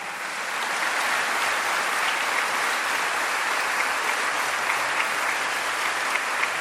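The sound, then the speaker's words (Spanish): Sustained applause for the bishop ahead of his episcopal anniversary, a dense steady wash of many hands clapping at an even loudness for several seconds, with no voices heard over it. “Y aunque yo pienso que todavía faltan 8 días, pero dentro de 8 no lo vamos a ver, pero brindémosle otro aplauso porque dentro de 8 es su aniversario episcopal.”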